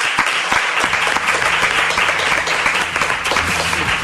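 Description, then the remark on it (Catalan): A crowd breaks into sustained applause for Joan Capdevila, dense overlapping clapping at a steady loud level for several seconds, with faint voices mixed underneath. “Un aplaudiment per Joan Capdevila, sí senyor.”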